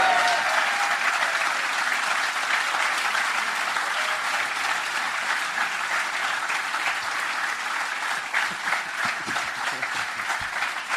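Sustained applause from a large audience at a live show fills the whole stretch, dense crackling claps at steady loudness, with a few scattered cheers rising over it.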